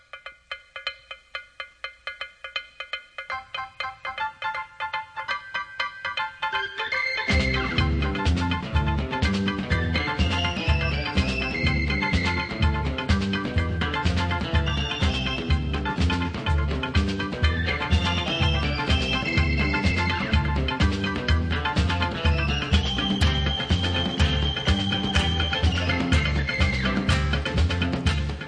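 An instrumental soul tune opens with a bright, clipped percussion pattern before the full band drops in loudly around seven seconds, riding a steady, bouncy groove with bass and keys and no singing.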